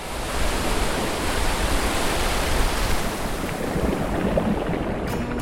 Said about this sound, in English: My favorite thing about the ocean is the sound of the waves.